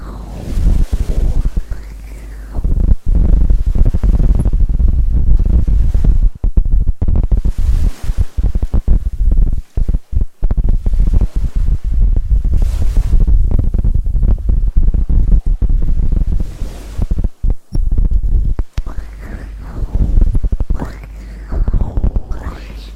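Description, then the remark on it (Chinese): A deep, muffled heartbeat thumps steadily, heard with a head resting against a chest, with a low rumbling hum and faint breathy noise underneath. “一会儿，亲爱的，我想你靠在我的胸口，然后给你听我的心跳，好不好？”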